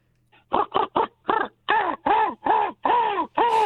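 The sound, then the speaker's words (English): A person imitates a crow, letting out about nine harsh, nasal caws in quick succession, the first ones short and clipped, the later ones longer and drawn out, loud with no other sound. “I want to know if you can do a crow.”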